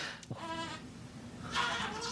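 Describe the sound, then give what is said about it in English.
A baby makes a short, wavering goat-like bleat, imitating a billy goat, followed by a brighter, breathier vocal burst, with no one talking. “Do you hear my baby making a billy goat sound in the background, by the way?”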